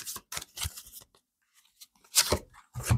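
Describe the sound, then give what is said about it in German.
A card, one of the dream cards, is drawn from a deck, heard as several crisp papery slides and rustles in short bursts, with a quiet pause in the middle and no talking. “Und zuletzt noch eine der Traumkarten.”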